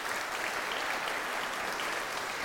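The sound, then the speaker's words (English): A church audience applauding a man who leads discipleship groups and counseling, a steady wash of many hands clapping at once, dense and even throughout with no voices standing out. “Can we give him a round of applause for all he does?”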